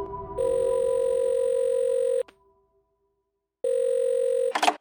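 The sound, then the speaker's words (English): A telephone line ringing in the earpiece after a number is dialed: a steady electronic ring tone in two long bursts separated by a pause of silence, ending in a sharp click as the call connects. “finally I dialed those numbers, expecting my tearful mother to pick the phone up.”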